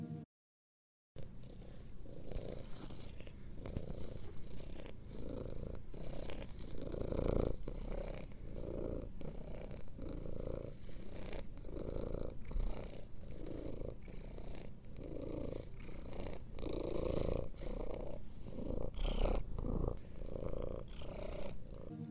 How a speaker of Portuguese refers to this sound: No início, tudo era vazio, escuro e silencioso, até o momento em que o silêncio foi quebrado por um ronronar.